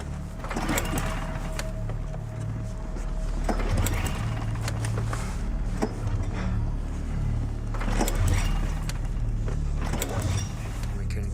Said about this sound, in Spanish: Necesitamos que arranque la máquina de nieve.